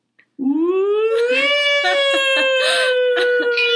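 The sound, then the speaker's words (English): A voice imitates a French siren: one loud, sustained nasal wail lasting about three seconds, its pitch climbing slowly and then holding steady, with a slight wavering texture throughout. “It's a French siren.”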